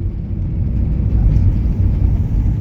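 A steady, continuous low rumble of a car driving along a road, like road and engine noise heard from inside the vehicle, holding at an even, fairly loud level with no voices.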